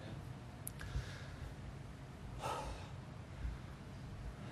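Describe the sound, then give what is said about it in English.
Heavy breathing after singing, with a sharp gasp-like breath near the middle over a low, steady rumble. No one speaks. “Still breathing heavy from that one.”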